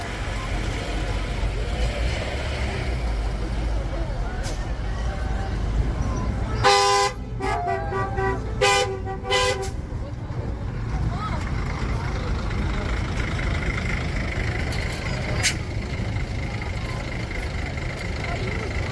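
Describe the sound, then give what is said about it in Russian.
Several car horns honk in short bursts during a car parade moving from Gediminas Avenue in Vilnius toward the Vilnius car museum, over a steady rumble of street traffic and crowd noise, the toots clustered together and loud, then a lone honk later. “С проспекта Гедимина автомобильный парад двинулся к конечной точке маршрута – Вильнюсскому автомобильному музею.”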